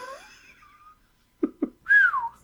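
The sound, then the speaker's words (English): A person whistles close to the microphone: a sliding, wavering tune, then two soft thumps and a loud, bright whistle that swoops upward and falls away. No one speaks. “I shouldn't whistle into the mic, sorry.”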